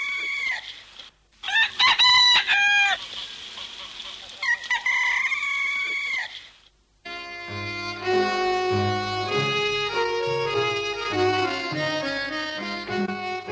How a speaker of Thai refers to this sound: ในที่สุดเวลาก็มาถึงท้องฟ้าเริ่มสางเสียงไก่ขันรับอรุณแว่วมาตามสายลม